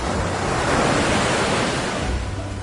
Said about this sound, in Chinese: 孔子听到了轰隆隆的声响，就问子路： 山的那边在打雷和下雨，为何还要赶着去？ 子路说： 这不是雷雨声，而是海浪拍岸的声音。